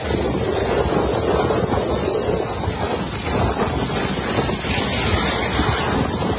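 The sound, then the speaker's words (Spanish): Stormy wind roars against the microphone while heavy waves crash and surge continuously during a storm in Spain, a loud, dense wall of rushing noise with no voices. “Hasta 8 comunidades autónomas y varias provincias están en alerta por riesgo de lluvias y fuertes rachas de viento.”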